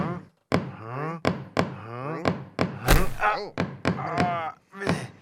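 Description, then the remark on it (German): A series of sharp, hollow knocks, about a dozen at an uneven rhythm, rings out loudly while voices talk continuously over them. “Da klopft einer.”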